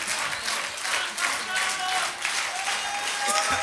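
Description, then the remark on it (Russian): A crowd applauds steadily throughout, a dense wash of many hands clapping at once, with faint tonal whistles or voices rising briefly above the noise. “Да пусть звучат ваши аплодисменты, поверьте мне.”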